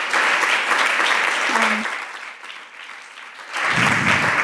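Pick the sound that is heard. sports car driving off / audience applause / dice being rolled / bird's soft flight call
audience applause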